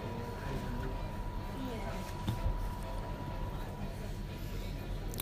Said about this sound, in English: It's still raining, as you can probably hear a little bit.